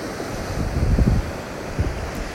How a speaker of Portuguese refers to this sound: Uma onda se forma, viaja até a beira da praia e retorna. Outra onda se forma e viaja quebrando na beira da praia e retornando para o mar.